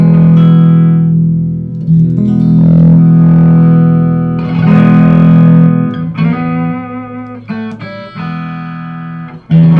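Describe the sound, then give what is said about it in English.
An electric guitar, a Strat played on its bridge pickup through a Silver Face Princeton Reverb amp, plays loud, bright sustained chords and ringing notes with a touch of reverb, shifting between phrases and ending in a few shorter strums, with no voices. “See, even here, here's the bridge pickup.”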